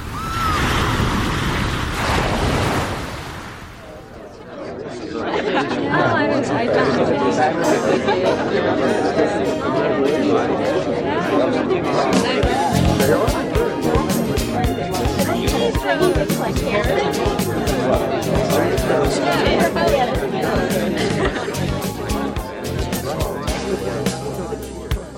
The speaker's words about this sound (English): This really is a weird party. I like it though. Why are they dancing like that? It's a new thing at all the parties now.